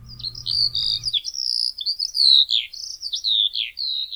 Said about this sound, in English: You may not recognize this bird on sight, but if you've spent time in Hawaii's high elevation forests, chances are you know the call of the Eurasian skylark. Take a listen.